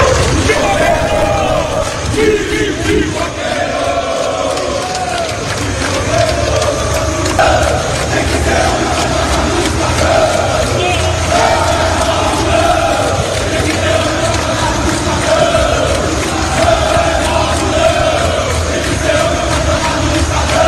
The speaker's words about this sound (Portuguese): Tá aí o pessoal também gritando pipoqueiro, time de pipoqueiro para o Esporte Clube Bahia ontem.